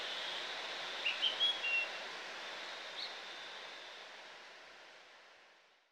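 A few short, high bird chirps sound in a quick cluster, then one more a moment later, over a steady outdoor hiss like wind that fades toward the end, on a path between vineyard plots in a special protection area for birds.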